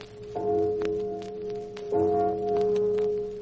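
A deep church bell tolls twice, slowly, for a burial in town, each heavy strike ringing out with a sustained, humming resonance that lingers until the next stroke, over faint scattered clicks and rustling.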